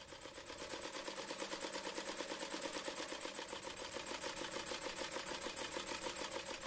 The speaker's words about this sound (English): Yes, you are hearing the sweet sounds of a sewing machine. And perhaps it's bringing back fond memories of your grandmother, mother, sister, or aunt, and the way they sat at a table, loading spools of thread with scraps of material,